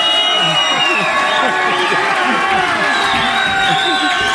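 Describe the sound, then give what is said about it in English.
A large standing audience cheers and shouts together as the teacher Kohan Israel Hawkins is welcomed, a dense, loud, continuous roar of overlapping voices with whoops rising above it, filling the whole stretch without pause. “Oh, we got a crowd here today. Praise Yahweh! Exercise the lungs, man.”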